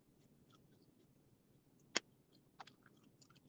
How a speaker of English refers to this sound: How they chew the gum? You know they messed up, right? I hate when people chew gum like that.